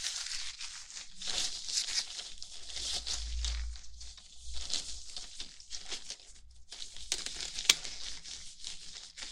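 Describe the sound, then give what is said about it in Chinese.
Gloves being pulled out of a drawer: steady crinkly rustling of material for several seconds, broken by a soft low thud partway through and a brief sharp tick near the end. No voices. “还有，从抽屉里拿出我的手套。”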